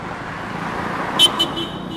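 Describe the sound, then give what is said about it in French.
Continuous roar of car traffic rolling past, with two quick, sharp horn toots partway through, followed by a thin high whine over the steady road noise. “Trop de voitures.”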